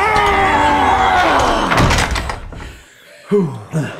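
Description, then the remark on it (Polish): A heavy door grinds and scrapes loudly as several people push together to force it closed, ending in a solid slam, followed by quieter shuffling and two short voiced exclamations. “Pomóżcie mi zamknąć drzwi!”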